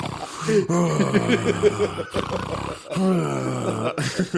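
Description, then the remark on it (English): A voice imitates snoring during a nap taken to sleep off steroid withdrawal, with loud, rough, drawn-out growling breaths, about four in a row with brief gaps between them, each one strained and throaty like an exaggerated snore. “That's how you snore on a roid nap.”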